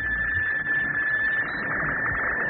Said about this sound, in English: You are listening to a seismograph as it probes the ocean's depths, uncovering many of the amazing facts you'll find in Life magazine.